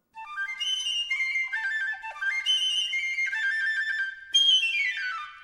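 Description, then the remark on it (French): A piccolo plays a bright, shrill melody alone, climbing through sustained high notes before finishing with a quick descending run. “On m'appelle Piccolo, dit le tout petit instrument.”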